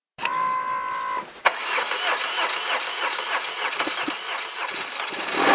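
A motorcycle engine cranks with a whirring starter for about a second, then catches with a sharp burst and settles into a loud, steady rumbling idle up close.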